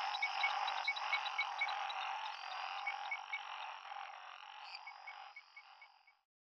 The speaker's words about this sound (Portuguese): canção para Londrina com a paisagem sonora Sinfonia dos Sapos, de Janete Alhauli